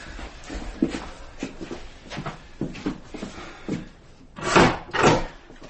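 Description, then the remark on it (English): A heavy theatre stage door is handled: a run of small clunks and rattles, then two loud, solid thuds in quick succession as it's pushed shut and secured. “Oh, no, you wouldn't believe the people who'd be through this stage door if I didn't look up.”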